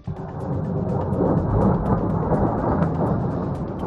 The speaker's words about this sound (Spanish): Son los misiles de la coalición internacional que ha utilizado aviones y también ha lanzado esos misiles desde barcos estacionados en el Mediterráneo.